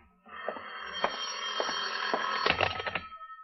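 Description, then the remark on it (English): An old-fashioned telephone bell rings at seven minutes to midnight in one continuous, rattling burst, bright, with small pulses through the ring and no voices. “Your phone, John. Answer it.”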